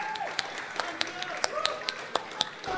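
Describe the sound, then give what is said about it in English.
Sparse, scattered applause at an elections event, for the staff who helped out: about a dozen sharp, irregular hand claps from a few people, heard over a low murmur of voices in the background. “Okay, finally, can we also have a round of applause for all the staff that has helped out”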